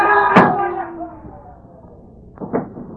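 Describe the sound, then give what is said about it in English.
A door slams shut with a sharp, heavy bang that rings briefly before fading, followed about two seconds later by a pair of softer knocks or thumps. “Through that door and walk ahead of me.”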